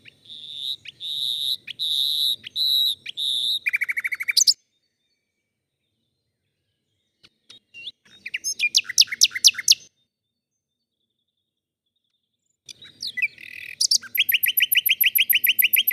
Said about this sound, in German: Also die erfahreneren Männchen werden auch bevorzugt. Das erkennt man an diesem schlagenden Gesang, den die Nachtigallen in ihren Strophen drinnen haben.